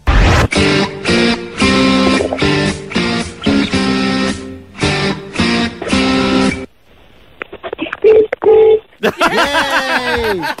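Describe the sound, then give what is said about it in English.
A punchy, rhythmic musical riff plays, then over a thin phone line a caller's car horn, with the phone held down to it, honks a couple of short blasts to finish the riff, followed by excited cheering voices. “We're going to play you the riff. You have to finish it nice and loud on the horn.”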